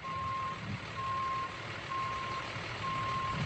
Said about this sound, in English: is practicing how to reverse park a tractor trailer, also known as a truck, on a quiet street corner in Bronx, New York.